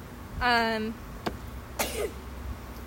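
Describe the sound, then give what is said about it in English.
A single sneeze: a short voiced, rising intake of breath, then a sharp, loud, noisy burst that trails off quickly, with a soft click between them. “bless you.”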